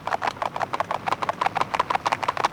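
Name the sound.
horses' hooves clip-clopping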